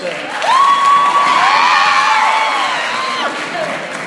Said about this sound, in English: and I can always tell how the summer is going based on the pitch of shriek that's coming from the Michlala girls. From the Michlala girls. It was a particularly high-pitched shriek this year, so I know for sure it's a great summer so far.